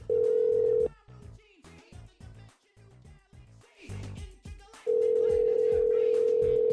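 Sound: skype call dialing tone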